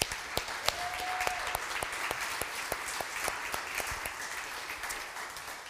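An audience in a church applauds steadily for several seconds for everyone who has done so much for the church, a dense, reverberant wash of clapping with a few sharper individual claps standing out.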